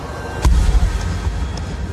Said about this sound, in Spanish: A esas horas de la madrugada, era extraño que alguien llamara a la puerta.